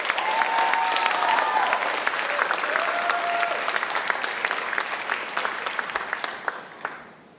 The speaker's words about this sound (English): You ought to give the kitchen staff a hand clap as well.